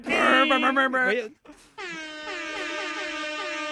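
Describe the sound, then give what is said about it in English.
An air horn sounds in two loud blasts: a short wavering burst, a brief gap, then a longer steady blare held to the end. “Well, no, but like I've heard air horns definitely before I heard them in rap music.”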